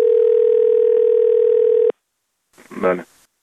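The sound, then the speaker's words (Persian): A steady, loud telephone ringing tone, heard while dialing a presidential office complaint number to test it, holds for about two seconds and cuts off abruptly, followed after a short silence by a brief voice answering over the line. “البته ما به خاطر شما شنونده های محترم ما این شماره ها را امتحان نمودیم. نتیجه امتحان چنین بود.”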